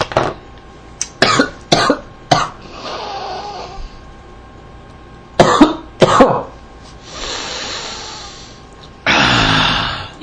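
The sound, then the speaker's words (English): Harsh, loud coughing fits after choking on a cup of water while talking and drinking: a quick run of four coughs, then two more, separated by long raspy, wheezing gasps for breath. No one speaks. “I'm going to drown on a cup full of water because I can't talk and drink at the same time.”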